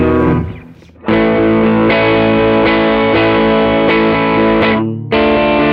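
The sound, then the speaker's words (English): A distorted electric guitar rings through an amplifier, loud, with sustained gritty chords that briefly cut out near the end before striking again. “Sounds very ampy. Sounds yeah very legit amp.”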